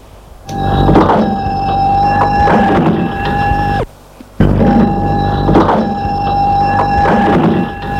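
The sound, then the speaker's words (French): A shop door opens twice in succession, each time with a steady, droning mechanical hum and rumble lasting a few seconds, separated by a short pause. Fairly loud, with no talking. “La porte est ouverte, un garçon d'à peu près 12 ans, habillé d'un short gris et d'une chemise blanche.”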